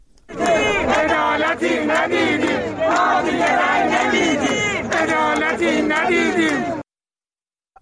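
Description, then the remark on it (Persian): A crowd of Social Security retirees and pensioners at a Sunday rally in Iran, protesting unmet demands, chants loudly in unison, many voices shouting rhythmic slogans nonstop for about six seconds before cutting off abruptly into silence. “بازنشستگان و مستمری بگیران تأمین اجتماعی روز یکشنبه در دست کم 15 شهر ایران در اعتراض به تحقق نیافتن مطالبات خود تجمع کردند.”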